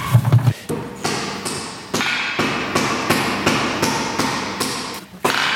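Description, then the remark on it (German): A sculptor smashes his wooden figures flat with a huge hammer, about seven loud blows in a steady rhythm, each a sharp crack followed by a ringing decay. “Und dann habe ich eben beschlossen, meine Figuren platt zu hauen mit einem riesen Hammer und die Brösel hinter Glas zu setzen.”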